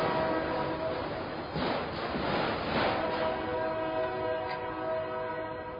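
A train rumbles past on railroad tracks beside a riverside path, steady and loud, with sustained horn-like tones ringing over the rolling clatter for several seconds. No one speaks.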